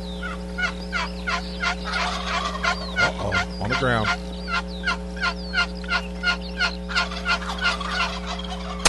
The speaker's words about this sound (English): Listen to the response of the turkeys to that call. Just the basic yelp.